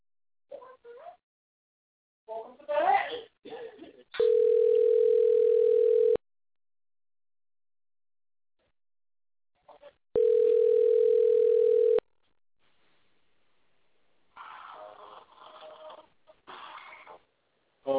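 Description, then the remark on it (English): A telephone line tone sounds while a call is placed: two long, steady, low-pitched buzzing tones of about two seconds each, separated by a pause, with brief bursts of other noise around them. “Well, I'm about to get Rodney on the phone right now for y'all, honey, because Rodney, I have all the tea, honey.”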